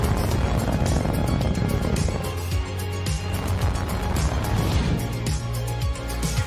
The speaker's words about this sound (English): Ignition. Liftoff. SpaceX. Falcon 9 has cleared the tower.